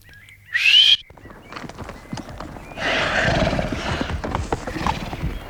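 A horse whinnies loudly, then its hooves clop in a quick rhythm as it draws nearer, the hoofbeats growing fuller and louder toward the end.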